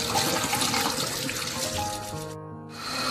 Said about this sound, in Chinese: 第三，冲，以稍大的水量，用流动的水冲洗双手。